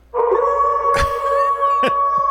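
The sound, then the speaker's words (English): A loud, sustained wolf howl sound bite holds a steady pitch from start to finish, broken by a couple of brief knocking thumps partway through. No speech. “You're lip singing a wolf call.”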